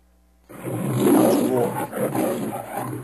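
A deep, rumbling lion growl swells after a brief silence, rolling on in a low, throaty roar that pulses and lingers, loud, with no voices present.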